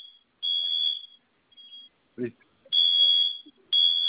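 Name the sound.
home security alarm sounding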